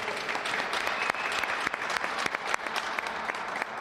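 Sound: applause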